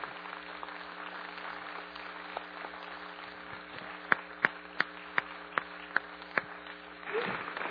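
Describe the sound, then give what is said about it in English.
Audience applause acknowledging a production crew forms a steady, grainy wash of clapping, with a run of about seven sharp, evenly spaced loud claps standing out midway before the noise swells briefly at the end. “So if we can give them a round of applause, that's the least we can do.”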